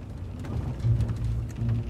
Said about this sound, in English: drove through the rain for 6 straight hours.